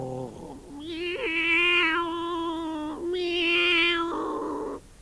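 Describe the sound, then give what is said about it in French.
A cat gives long, loud, drawn-out yowling meows with a growling edge, two sustained wails that end in a lower, rougher tone. “Le chat miaula en grondant.”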